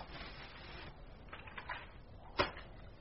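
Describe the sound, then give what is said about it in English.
Quiet paper tearing as paper is shredded to kindle a wood fire: a long raspy rip, then a few shorter ripping bursts and one sharp snap near the end, with no voices. “I will shred a little paper.”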